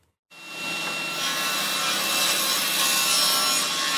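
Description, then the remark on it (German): A loud, sustained whine of a table saw cutting an angle into a freshly cut 3-metre wooden board at a trade-fair stand builder's workshop in Berlin starts abruptly after a brief silence and holds steady, with bright high-pitched tones and a gritty cutting texture as sawdust flies, no voices. “schiebt ein 3 Meter langes, frisch aufgeschnittenes Holz in die Tischkreissäge.”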